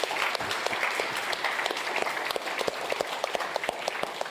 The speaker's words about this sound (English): So this applause, these are applauses for you. This applause is for you. Thank you for your support.